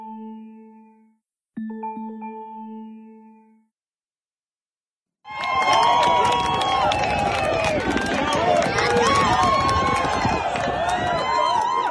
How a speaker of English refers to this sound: The cheering you hear is from an Instagram post on March 13th from Jerry Falwell Jr.'s feed.